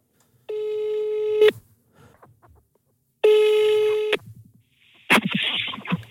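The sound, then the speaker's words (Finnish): Two long, steady phone ringback tones about a second each with a pause between as a phone call is placed, followed by a clunky click and rustle as the line picks up. Fairly loud, with no talking. “Laitetaan tuosta noin puhelinjutut kyllä valmiiksi.”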